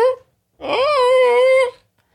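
A dog whimpers, not in pain but trying to get people to throw its bone: a brief whine, then a longer, drawn-out high-pitched whine that rises and wavers before cutting off. No one speaks.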